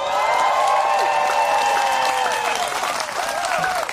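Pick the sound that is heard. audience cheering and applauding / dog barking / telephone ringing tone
audience cheering and applauding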